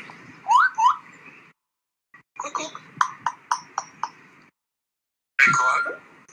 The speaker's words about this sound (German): Das ist ein Papagei, der komische Wörter von sich gibt. Ich war nämlich mit meinem Girl im Zoo. Da war ein Papagei, der hat geredet. Das fand ich ja krass, du.